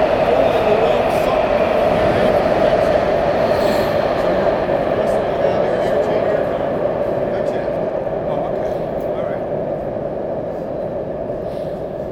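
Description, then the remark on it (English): A train rumbles past, a steady, loud roar of wheels on track with a droning hum that holds for several seconds before slowly easing off. “But every time a train comes through, it's pushing the cold air out.”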